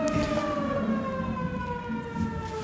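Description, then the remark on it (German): An outdoor alarm siren wails steadily, its stacked tones sliding slowly downward in pitch over a low rumbling background, fairly loud and continuous with no voices. “Ich hoffe, dass das zur Fahrdekoliste gehört und nicht der Feueralarm ist. Ich hoffe, dass es kein Katastrophenalarm ist.”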